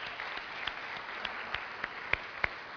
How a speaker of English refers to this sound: Go ahead and give a round of applause to our new members.